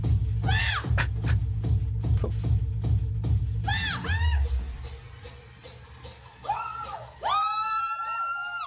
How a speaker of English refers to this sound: Why the screaming? Why the screaming? Oh my God.